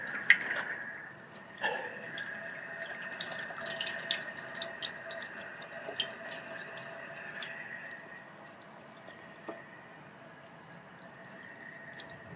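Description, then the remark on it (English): Water trickles steadily from a drinking-fountain tap used for filling a dog bowl, a continuous splashing with faint dripping accents and a soft tonal hum running underneath, no voices present. “Water is good.”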